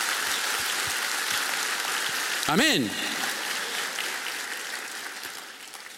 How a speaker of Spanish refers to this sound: Si estás de acuerdo, diga amén. Si estás de acuerdo, un aplauso al Señor, porque Él es nuestro creador.